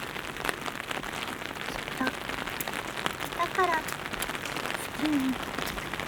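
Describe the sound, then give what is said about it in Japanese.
Steady rain patters on a hard surface on the way home, a continuous hiss dotted with sharper droplet ticks, while a few faint tonal chirps surface briefly in the background. “だからきっと雨の帰り道もそうなんだよね。”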